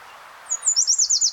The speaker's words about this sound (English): I'm not sure what kind of warbler this is, but I'm gonna record it.